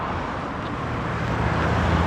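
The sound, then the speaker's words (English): A car rolls along the road, its steady tire and engine rumble filling the short stretch and swelling slightly toward the end. “And this car is always out here. Just always see this car.”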